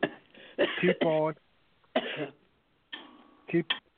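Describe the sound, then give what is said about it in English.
A person coughs repeatedly in several harsh, irregular bursts, some with a raspy, throat-clearing edge, with short quiet gaps between. “Somebody's coughing.”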